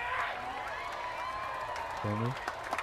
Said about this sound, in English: Give yourself now a round of applause.